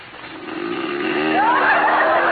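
A man gives one long, loud, buzzy snore that swells steadily and ends in a rising, whistling tone. No one talks over it.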